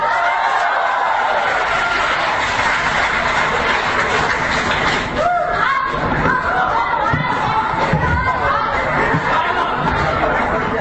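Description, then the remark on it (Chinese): An audience applauds steadily for about ten seconds at Gao Feng's crosstalk (xiangsheng) show as Yue Yunpeng and Sun Yue come on, a dense, even wash of clapping that never lets up, with bits of laughter and crowd chatter mixed in. “谢谢，感谢您的掌声鼓励。”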